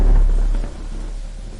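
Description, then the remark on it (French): A deep, steady rumble of thunder from a storm outside rolls through, strongest at the start and easing slightly, heard from indoors. No voices. “Curieuse, elle s'engage dans le couloir, ses pas résonnent sur les boiseries craquelées, perturbant momentanément le craquement de l'orage au dehors.”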